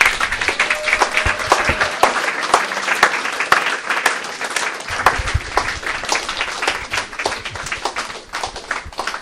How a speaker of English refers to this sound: Give them one more clap if you would.